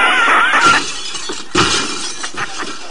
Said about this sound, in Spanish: ¡Niños! ¡Cargaros todos los cristales de la clase! ¡Venga!